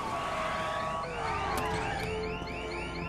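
Several police cruiser sirens blare at once as cruisers swarm the area of a downtown bank after an armed robbery, a long wail sliding in pitch while another yelps in quick repeating rises, all over a steady low rumble of traffic and engines.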